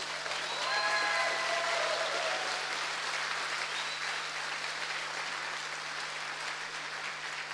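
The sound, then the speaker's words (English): Sustained audience applause for the chefs, dense and steady clapping from a sizable crowd, with a few faint whoops or whistles near the start before it settles into even clapping. “Can we get a round of applause for the chefs, actually?”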